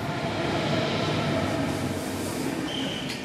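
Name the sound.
train station platform ambience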